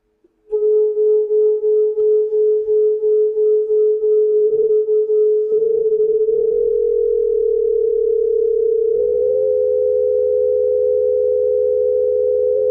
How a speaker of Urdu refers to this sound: دوبارہ دیکھیے، اچھا اس دفعہ میں ان دو فریکوینسیز کو تھوڑا سا الگ کر دوں گا اور یہ بیٹ فینومینا جو ہے یہ پھر آپ کو دکھائی نہیں دے گا، سنائی نہیں دے گا.